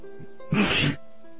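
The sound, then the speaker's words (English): A single sharp sneeze bursts out loud, a brief explosive gust of breath lasting under half a second, with quiet room tone before and after. “Sorry about that sneeze.”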